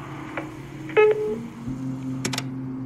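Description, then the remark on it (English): A single short electronic answering machine beep sounds clearly over a steady low hum, followed by a few faint clicks and a brief scratchy burst near the end, with no one talking. “Wait for the beep, and have a good day.”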